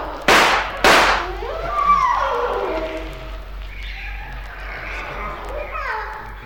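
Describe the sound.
Two loud, sharp gunshots crack in quick succession, about half a second apart, fired while an elephant caught on an anchor by its tusks drags them toward a forest. Voices follow as the echoes fade.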